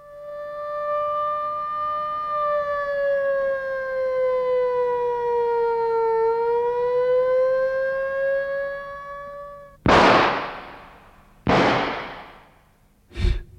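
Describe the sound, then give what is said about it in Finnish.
The alarm siren of the luxury hotel Blossom holds a steady, loud wailing tone that sags slightly in pitch and rises again, then cuts off as three sharp, booming blasts follow in quick succession. “Lutnantti Lunkentus on saapunut hotelli Blossomiin ja havainnut suureksi yllätyksekseen, että hälytys on vallan erinomaisen aiheellinen.”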